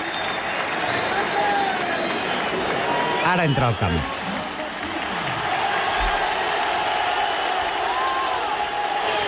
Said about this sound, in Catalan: I ara marxarem al camp de l'Espanyol, una altra vegada. Vinga. Però no per escoltar càntics racistes, sinó per escoltar aquest moment en què Joan Garcia, en el seu debut amb la selecció espanyola, és escridassat i xiulat per la seva pròpia afició.